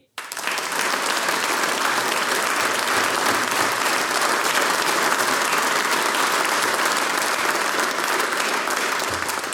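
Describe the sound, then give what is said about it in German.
A crowd breaks into sustained applause for a brass band, a dense, steady wash of clapping at a constant loud level for nearly ten seconds, with no voices standing out. “Applaus für die ….”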